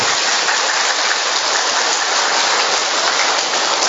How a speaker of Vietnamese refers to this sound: Cho một tràng pháo tay to lên thưa anh chị em. To lên, to nữa lên.